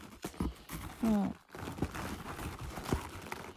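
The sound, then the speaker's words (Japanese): Scissors cut through the packaging of an Amazon delivery box being opened, in a few sharp, uneven snips, mixed with rustling and crinkling of plastic and cardboard, with a short low hum-like tone partway through. “ハサミでちょっと切っていきますね。”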